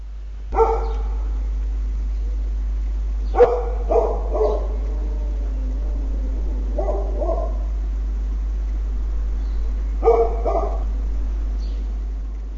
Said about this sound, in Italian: Il cane Oscar, che avete appena sentito, è stato vittima di un piccolo infortunio, poverino. Facendo un salto per acchiappare qualcosa che qualcuno gli porgeva con il braccio in alto, è caduto malamente e si è rotta di brutto la gamba